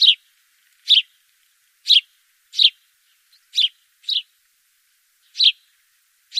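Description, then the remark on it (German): House sparrows chirping, with about eight short, bright chirps at uneven intervals, clear, separated by silence and with no voices. “In vielen Städten gehen die Spatzenbestände dramatisch zurück.”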